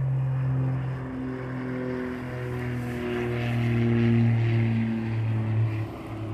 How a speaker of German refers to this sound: Ein Flugzeug, was gerade über mich fliegt, was soll das hier mit dem Doppelpropeller? Das ist ja wohl nicht ein Cessna, oder?